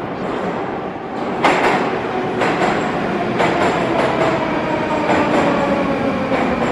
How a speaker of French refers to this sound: Il est encore assez tôt, on vient de sortir de la station de métro Dobrynenskaya, accueillie dans le hall par une immense mosaïque